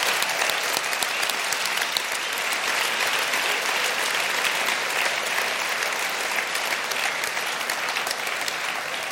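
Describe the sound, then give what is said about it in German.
A large audience applauds steadily, a dense, continuous wash of clapping that stays loud and even for the full stretch, with no voices breaking through. “Und das ist ein Applaus wert.”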